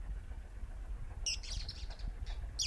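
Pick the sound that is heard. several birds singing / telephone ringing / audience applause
several birds singing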